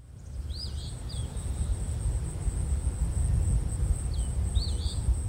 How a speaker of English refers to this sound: And now we'll give a listen to the eastern phoebe.